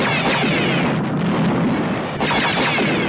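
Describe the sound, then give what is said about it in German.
A loud, dense barrage of sci-fi space battle sounds from the film Kampfstern Galactica: booming spaceship explosions, laser beams hissing past and crackling blasts pile into a continuous roar, with a brief dip before another burst near the end. “Da explodieren Raumschiffe und Laserstrahlen zischen vorbei.”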